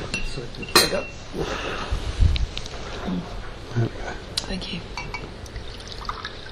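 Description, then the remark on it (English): Water pours into a glass in a short gurgling stream with a light clink of glassware, while a person speaks briefly over it. “So, do you want some more water?”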